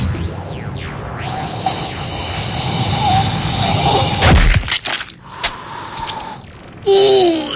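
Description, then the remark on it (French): A single hard slap in the face, delivered in weightlessness, cracks out midway through, loud, buried in a dense wash of whooshing, humming, swooping effects, with no one speaking. “En apesanteur, la claque, t'as le temps de l'avoir arrivé 20 fois et j'ai même pas pu l'éviter.”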